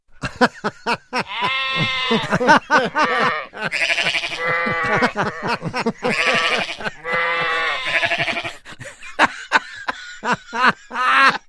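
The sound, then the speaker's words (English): Sheep bleat again and again in loud, wavering, quavering calls that overlap one another, with short clicking and rustling noises between the bleats, in a field recording made on a tape recorder at night. “I think Mayor took a tape recorder out with him last night when he visited his sheep.”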